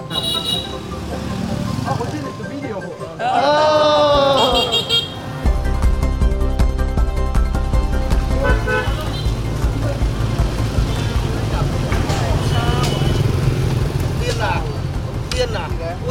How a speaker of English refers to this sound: An endless stream of scooters, taxis, and lorries unloading their goods, vying for space with pedestrians on the busiest street in Hanoi.